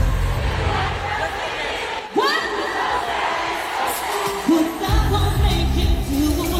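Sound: concert crowd singing along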